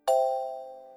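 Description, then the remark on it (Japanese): A single bright electronic chime strikes once, a clear bell-like tone with shimmering overtones that rings out and slowly fades over about a second, alone, signaling learners to answer in a language pronunciation drill. “のチャイムの後に、山、海、川のように標準語で指示しますので、のチャイムの後に、指示した標準語と対応するうくむにの単語を使って回答しましょう。”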